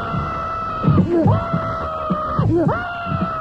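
A man screams loudly over a steady electric buzzing hum as 50,000 volts from a car's passenger seat course through his body, his strained yells rising and breaking in two surging bursts, harsh.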